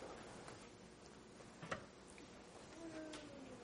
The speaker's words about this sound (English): I'm sorry. Somebody's changing the clock back there.